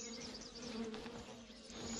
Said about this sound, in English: I hear the bees. I don't see them. They must be off the path somewhere.